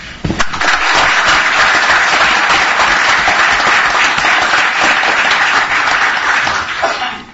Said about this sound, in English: And I would like to offer another round of applause to these gentlemen and their dedication and their compassion to our university.